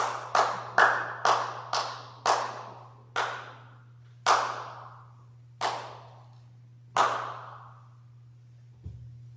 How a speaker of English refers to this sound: So often, we don't really celebrate like we should do. We'll clap.